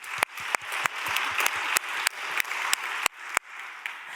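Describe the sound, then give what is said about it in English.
An audience applauds steadily to welcome a panel speaker, a dense wash of clapping with a few sharper, louder claps popping out at fairly regular intervals. The applause stays even in volume throughout, with no voices over it. “You can applaud to welcome her if you like.”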